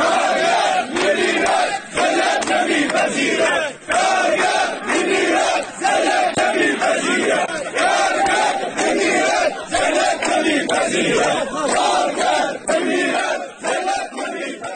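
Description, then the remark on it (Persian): Hundreds of striking workers of the Mianab agro-industrial company, gathered in front of the Karkheh labour office in Shush to protest their work contracts and low wages, shout and chant together, a loud, dense roar of many voices that pulses rhythmically and continues without pause from start to finish. “صدها تن از کارگران کشت و صنعت میان آب اعتصاب و در مقابل اداره کار کرخه تجمع کردند.”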